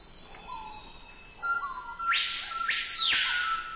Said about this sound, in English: Now, that's the colorful cry of the surprisingly drab screaming peahawk.